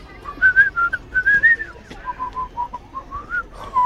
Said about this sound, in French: Pourquoi tu siffles tout le temps? Parce que j'aime bien.